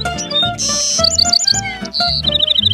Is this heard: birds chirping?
yes